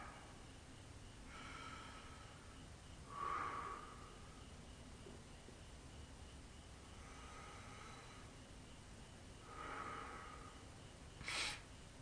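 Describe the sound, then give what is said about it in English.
Slow, deep breaths drawn in and let out as a warm-up breathing exercise, a few measured cycles with a faint nasal whistle on some, over a quiet hiss with no talking. “So back to breathing.”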